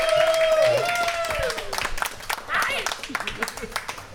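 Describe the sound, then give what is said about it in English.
An audience applauds an audience member who has just won a prize, with quick, scattered claps that carry on throughout, opening with a voice or whoop rising above the crowd before the clapping thins toward the end. “On peut applaudir”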